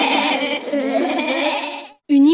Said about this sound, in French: clameur résonna dans la bergerie. Chaque brebis tentait de faire entendre son point de vue sur la question.